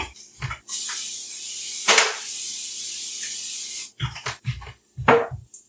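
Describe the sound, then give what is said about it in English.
Baked goods are being sprayed: a steady spray hisses continuously for about three seconds with a brief louder burst midway, then stops, followed by a few short, scattered handling sounds. “is now spraying the baking.”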